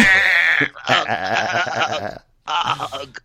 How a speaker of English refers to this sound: Shut up, sheep.